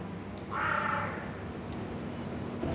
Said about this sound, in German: weiß ich sicher, es handelt sich um Rabenkrähen. Sie sind vollkommen schwarz. Und ich vermute, dass es sich um ein brütendes Paar handelt,